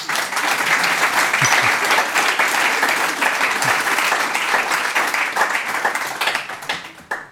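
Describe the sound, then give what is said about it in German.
Sustained applause from a live audience at the SHZ-Medienhaus, a dense wash of many hands clapping at steady loudness for several seconds before tapering off at the end. “Am Applaus habt ihr gehört, dass das eine besondere Folge ist.”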